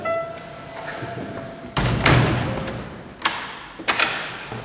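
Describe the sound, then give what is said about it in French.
A door with traditional stained-glass panels in a 19th-century thermal spa building swings shut with a solid thump and a faint rattle of glass, followed by a couple of lighter knocks and clicks as it settles. “Les portes avec les vitraux traditionnels. Donc je ferme derrière.”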